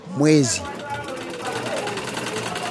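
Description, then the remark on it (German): A sewing machine in Kampala runs steadily with a fast, even mechanical stitching clatter, after a brief snatch of a voice at the very start. “hat in Kampala von einer Hilfsorganisation eine Nähmaschine als Startkapital erhalten.”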